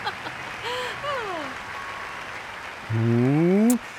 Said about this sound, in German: Ja, und klatschen ist natürlich erlaubt.